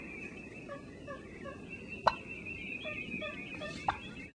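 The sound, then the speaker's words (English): Two sharp turkey calls of the standard cluck, a turkey's greeting, one around two seconds in and another near the end, rise above a steady outdoor background with faint chirping birds and a low rumble. “This is like a standard cluck.”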